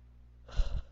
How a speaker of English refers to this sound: Sorry, I'm moving a lot of energy right now, so I'm yawning a lot, which tends to happen.